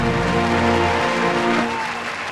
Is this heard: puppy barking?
no